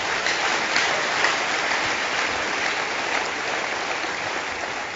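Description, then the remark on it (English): A crowd applauds steadily, many hands clapping into a dense, even wash of sound that stays loud and sustained without pause or voices. “And those people, you can clap.”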